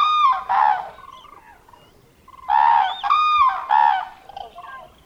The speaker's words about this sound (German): Nichtsdestoweniger beginnt der Instinkt dieser überwinternden Vögel wieder einzusetzen. Der Ruf zurück zu ihren Brutplätzen in Mittel- und Nordeuropa wird nicht auf sich warten lassen.